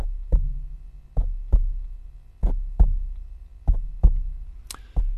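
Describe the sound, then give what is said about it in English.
A finger taps on a microphone in paired, booming thumps that mimic a heartbeat's lub-dub rhythm, fairly loud, repeating about four times with no one speaking. “So I touched his heart, and if you're a listener, I'm going to put my finger on the microphone, and I touched like a heartbeat.”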